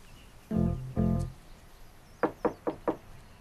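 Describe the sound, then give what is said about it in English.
Four quick, evenly spaced knocks rap on a front door at a retirement complex, crisp, following two duller low thumps a moment earlier. No one speaks. “She straightens her blouse, puts down her case, then knocks on Ella's front door.”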